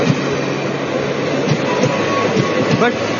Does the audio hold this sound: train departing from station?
yes